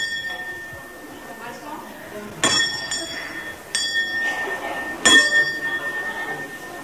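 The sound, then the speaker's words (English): A string-pulled doorbell at the alley entrance of the Missionaries of Charity's Mother House convent on Lower Circular Road in Calcutta rings out three times in a slow, uneven sequence, each bright clang lingering as it fades, with a soft murmur of background ambience underneath. “The entrance is in a tiny alley, and to gain admittance, you simply pull a string that rings the doorbell.”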